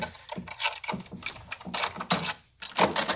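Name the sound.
keys being tried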